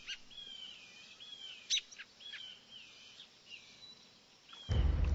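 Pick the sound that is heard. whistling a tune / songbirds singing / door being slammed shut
songbirds singing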